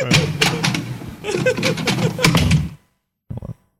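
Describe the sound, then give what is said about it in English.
A door is handled and pushed shut, with a couple of seconds of rattling and clattering, then silence and one short, muffled thud. “Let me get that door.”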